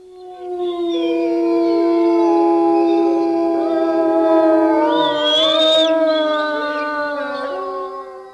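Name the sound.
gray wolves howling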